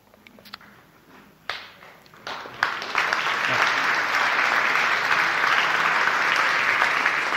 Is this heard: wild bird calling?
no